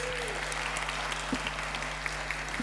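Steady applause from an audience fills the room, a dense wash of clapping that holds at an even level throughout without pausing.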